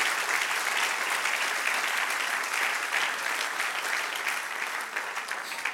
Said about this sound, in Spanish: Aleluya, dale un aplauso al que reina.